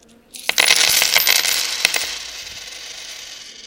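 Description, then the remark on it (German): Coins clatter onto a hard floor in a sudden bright jingle, several quick metallic clinks bouncing and scattering before a thin shimmering ring fades out over a few seconds, as money taken out to pay at a counter after queuing is dropped. No one speaks. “Ah nein, jetzt ist mir das Geld runtergefallen.”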